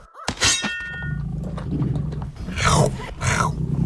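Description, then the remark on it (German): A sharp metallic clang rings out, followed by a lion's rough, rumbling roar that swells twice, loud, with no talking. “Ja, ein Fuchs und ein Löwe.”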